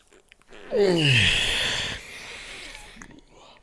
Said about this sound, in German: Also, für alle Podcast-Zuhörer, ich habe gerade mein Gähnen unterdrückt. Also, vielleicht bin ich auch ein schlechter Schauspieler, ja. Also, ich habe nicht wirklich gähnen müssen, aber ich habe es probiert zu gähnen.